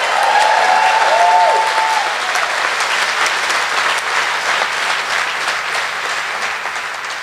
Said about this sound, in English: Can we get a small round of applause